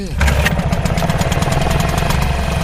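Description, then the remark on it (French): The petrol engine of a small fishing boat on the Danube at Golubac starts up in the evening and settles into a steady, loud putter, its rhythmic chugging continuous throughout with no pauses. “Le rituel est le même chaque soir, mettre un peu d'essence dans le moteur de la barque, observer les courants du Danube et poser les filets en espérant que la chaleur de l'été tombe un peu, pour que les poissons quittent le fond du fleuve.”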